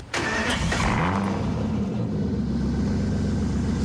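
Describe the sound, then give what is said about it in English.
An Aston Martin DBS car engine fires up with a sharp burst as the key is turned and settles into a loud, deep, throbbing rumble, with no voices. “And the third reason he picked the Aston Martin DBS.”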